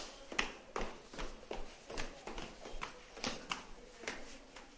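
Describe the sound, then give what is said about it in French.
Footsteps going down a stairwell, a steady series of firm taps about twice a second, with a faint background and no talking. “On est dans les escaliers.”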